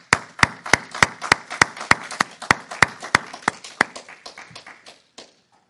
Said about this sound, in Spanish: Vamos a dar un aplauso.